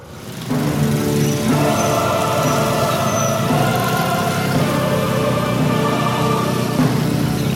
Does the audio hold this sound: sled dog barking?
no